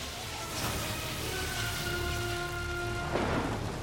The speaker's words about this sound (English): The crack of lightning.